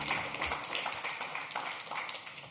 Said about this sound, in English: Give a big hand clap to the worship team again.